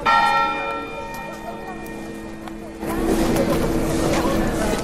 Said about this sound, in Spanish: Las campanas de las iglesias doblan por el Papa Francisco.